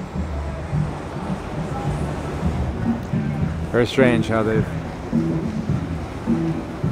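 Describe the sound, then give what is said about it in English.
Steady rushing water and churning surf from artificial waves in a wave pool in the San Joaquin Valley, with surfers out in the water, low rumbling and a brief louder splash-like burst midway, while a man speaks over it throughout. “are out in the water, not expert surfers by any stretch, and they're running quite a different wave, and it looks like a different world than what we saw earlier.”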